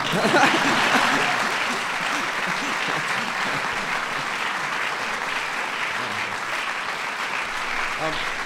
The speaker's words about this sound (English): Thank you for inspiring so many to become points of light. That's an applause line.